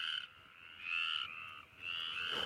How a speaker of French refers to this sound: Les chants du soir dans nos campagnes. Les chants des petites grenouilles arboricoles, vertes aux yeux d'or. Les chants des rainettes.